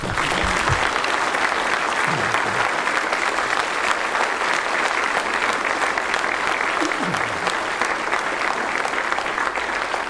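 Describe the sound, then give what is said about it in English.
An audience claps steadily for about ten seconds for a man being honored with a 50-year ring, a dense, even wash of applause with no pauses and only faint voices mixed in underneath. “So, man, would you clap for him?”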